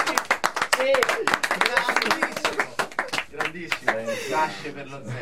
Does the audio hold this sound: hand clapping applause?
yes